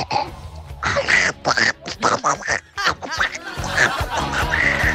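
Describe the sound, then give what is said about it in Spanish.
A voice imitates Donald Duck's quacking, a run of squawky, nasal bursts in choppy rhythm, fairly loud, with snickering laughter mixed in. “Ese era el pato Donald.”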